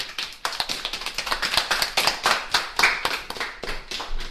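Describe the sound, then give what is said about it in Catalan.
A small group applauds the guests on the Radio Escola school radio programme, dense overlapping claps forming a bright, steady patter that rises slightly and sustains for several seconds without any talking. “Un aplaudiment.”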